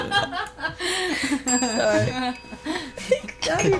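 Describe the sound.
A single bright bell ding rings out midway and lingers for about a second, sounding over lively overlapping talk and soft chuckling.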